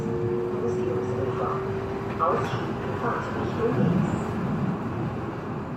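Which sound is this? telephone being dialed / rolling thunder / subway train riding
subway train riding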